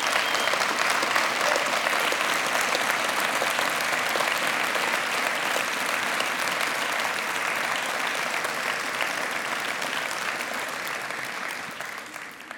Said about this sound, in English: But could we please appreciate our police officers, our firefighters, and our EMT people with a round of applause right now.